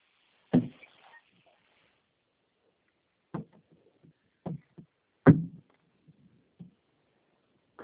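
A living-room door swings and thuds shut with a solid wooden knock, followed by a few more scattered, hollow bumps and clatters, with no voices.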